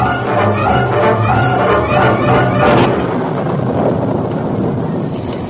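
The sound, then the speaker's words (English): Loud, steady wind roars across the whole stretch with a deep rolling rumble of thunder beneath it before rain, a dense stormy wash that eases slightly toward the end. “Here come rain. Last light and open clouds wide. Otto, I heard something more than thunder.”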